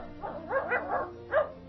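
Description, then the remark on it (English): A person imitates a faraway dog in a basement, making about four soft, muffled barks in a loose rhythm, sounding distant and quiet with no other talking. “I just love the way his eyes light up when he hears your Faraway Barking Dog.”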